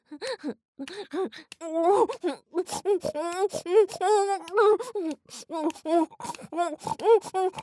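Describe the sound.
A person imitates a pig, oinking and grunting in a rapid, irregular string of short nasal snorts and squeals, fairly loud throughout.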